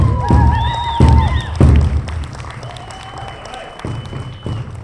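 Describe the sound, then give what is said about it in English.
An audience applauds in a steady wash of clapping, with a few heavier thumps and some voices and whoops mixed into the crowd noise. “Let's give them a round of applause again, please.”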